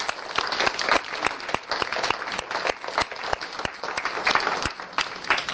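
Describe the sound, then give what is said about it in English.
A crowd applauds the facilitators for their hard work, many hands clapping in a dense, even patter that holds at a fairly loud level for several seconds, with no voices heard over it. “And I'd like also to thank the facilitators that have been with us in the past 9 weeks and give them an applause for their hard work.”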